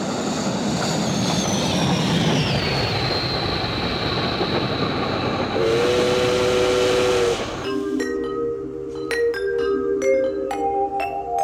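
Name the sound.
steam train with whistle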